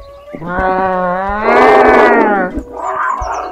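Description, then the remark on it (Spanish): A big cat roars, one long drawn-out call that swells harsh and rasping at its peak, then trails into a shorter, softer grunt. No other sounds or voices. “«¿Dónde estará ese gato del demonio?», se preguntó Flor.”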